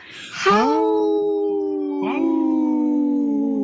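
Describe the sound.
A radio show guest imitates a wolf with two long, sustained howls, each starting with a breathy rising onset and then holding a steady, slowly falling tone, loud and unaccompanied.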